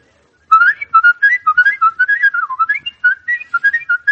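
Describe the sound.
A man whistles a bright, lilting melody, the tune rising and falling in quick, clear notes with short breaths between phrases and no talking over it.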